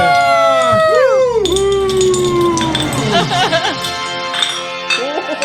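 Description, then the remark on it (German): Several bright glass clinks ring out in a New Year's toast right after a countdown, amid loud, wavering whoops and howl-like cheering from a group of people, with chatter continuing. “Prost, Neujahr!”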